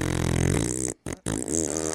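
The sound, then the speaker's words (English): A voice blows loud, buzzy raspberry sounds imitating farts, two sputtering bursts separated by brief silent gaps. “That's me making fart noises at your comment.”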